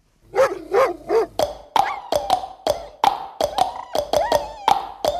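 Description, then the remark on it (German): Synthesized sound piece made for radio, sonifying a painting of a dog lying in snow: three short, wavering bark-like tones open it, followed by a quick, irregular string of sharp pitched taps ringing fairly loud, with no talking. “unser erstes Beispiel. Franz Marx, liegender Hund im Schnee”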